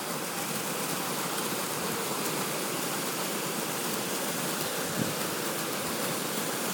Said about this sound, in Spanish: Estamos aquí en el Parque del Rey Juan Carlos I. Y estamos aquí en unas cascadas, como una especie de río y lago que hay aquí, que a ver si lo escucháis.